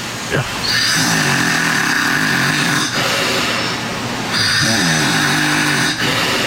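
A man snores loudly while sleeping in his room, two long, rattling breaths, each a harsh buzzing rasp with a rising harmonic drone, separated by a brief pause, videotaped from the hallway outside the door.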